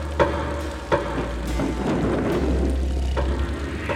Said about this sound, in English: Here be the door. Shall we knock? Aye, and that with such a knocking as shall serve notice that we come in the name of the Lord. So they knocked, and that with such strength as had never been heard in these halls.